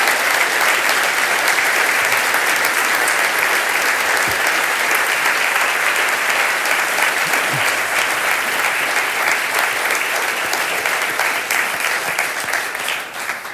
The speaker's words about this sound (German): Und ich denke mal, wir sollten den ganzen Kinderkirchenmitarbeitern einen fetten Applaus geben, wenn sie diesen Dings gucken.